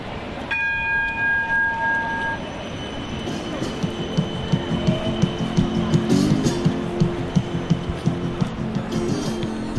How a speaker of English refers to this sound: While many of the sounds of Melbourne's bustling city streets haven't changed much over the years, the tram bells, the street performers, the cries of the once famous Melbourne newsboy selling the dailies and the weekend editions have long faded.